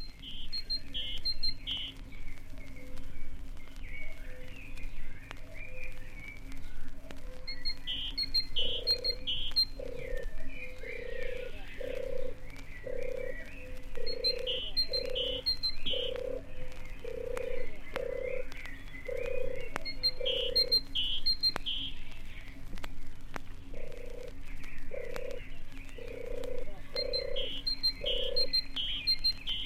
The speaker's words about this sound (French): Musique douce, musique d'ambiance, tourterelle des bois et mésange charbonnière entament un duo.